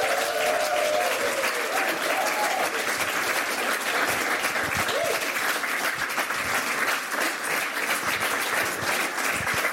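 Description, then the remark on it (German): Warm, steady applause from an audience welcoming two guests onto a show fills the whole stretch, a dense wash of many hands clapping at constant loudness, with a few faint whoops or voices rising briefly near the start. “Bitte begrüßen Sie mit einem warmherzigen Applaus”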